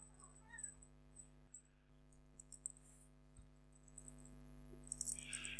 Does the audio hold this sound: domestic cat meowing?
yes